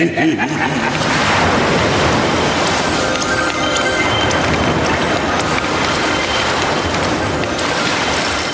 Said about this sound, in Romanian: Între timp a reapărut ceața, apoi peste marea învolburată s-au abătut ploaia și vântul. Din fericire, nu pentru multă vreme.